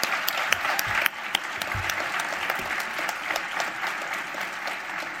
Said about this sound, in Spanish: First, I would like to thank the truly brilliant and incredibly hardworking Sitges Film Festival team. Let's give these amazing people a huge round of applause.